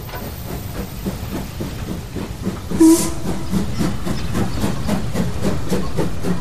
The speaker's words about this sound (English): July the 1st, 1946. A steam train pulls into Didcot Station.